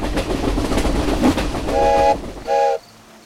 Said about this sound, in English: There's a train going by in the distance. Maybe we'll be able to catch a ride.